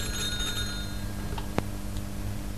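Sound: telephone ringing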